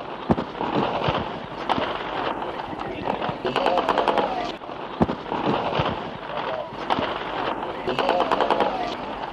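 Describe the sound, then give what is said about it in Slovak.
Repeated sharp gunshots from occupying troops crack out at irregular intervals across Slovak National Uprising Square in Bratislava, some in quick bursts, over a constant roar of crowd noise and indistinct voices. “A že sa strieľalo a nemálo, doložíme autentickým záznamom z námestia Slovenského národného povstania v Bratislave.”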